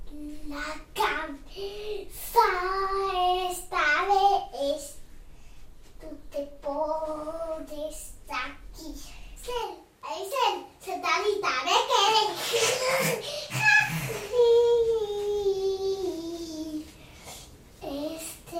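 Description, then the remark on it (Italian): A five-year-old girl babbles and chatters in playful bursts of high, singsong vocalizing while playing in her room, with brief pauses and faint handling noises between phrases. “Mia figlia, bambina di 5 anni, gioca nella sua stanza.”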